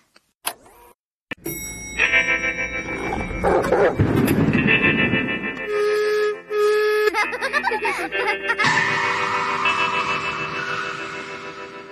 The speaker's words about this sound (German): Hören wir doch mal, du hattest ja damals schon ein Jingle gebastelt. Ne? Hier geht's ja auch immer so fetzig los mit deinem Song da, wuff, wuff. Und den gab es auch schon in einer irgendwie abgespeckteren Version.